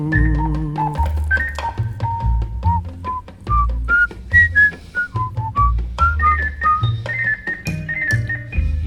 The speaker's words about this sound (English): Sing it, but apparently whistle it as well.